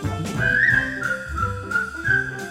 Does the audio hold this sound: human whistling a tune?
yes